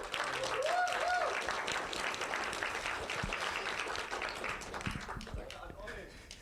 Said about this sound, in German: Da erstmal großes Applaus an Nick, der sich bereit erklärt hat, hier DJ zu machen, Freitag und Samstag.